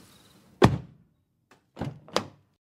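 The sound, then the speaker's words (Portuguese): A car's driver door shuts with a solid thunk, followed a moment later by two softer thuds in quick succession, with no voices. “Abrindo a porta do motorista, eu dei uma última olhada ao redor antes de me acomodar no banco.”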